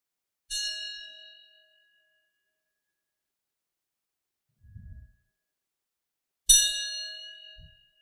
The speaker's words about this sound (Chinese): 所以听到这样的钟声连续的声音，就赶紧要办的事情赶紧办完，就回到自己的座位上，可以打坐等等。